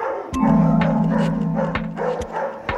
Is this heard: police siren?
no